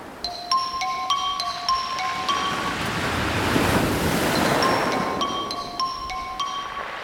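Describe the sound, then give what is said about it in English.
Heavy surf roars steadily below a cliff and swells to a thundering crest midway, while a repeating electronic ringtone melody of short, high-pitched beeps echoes up from below at the start and again at the end. “Out of nowhere, I heard a ringtone echoing up from below, somehow making itself heard over the thundering surf.”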